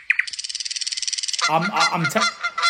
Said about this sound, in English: A Canada goose. Oh, Canada goose. Well, that just sounds like a goose, doesn't it?